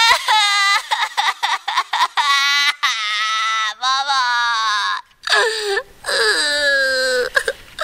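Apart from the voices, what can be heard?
child crying and wailing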